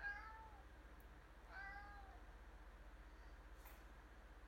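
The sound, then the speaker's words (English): A cat named Smokey meows twice, short rising-falling calls about a second apart, over a steady low rumbling background hum with no talking. “I love this kitty.”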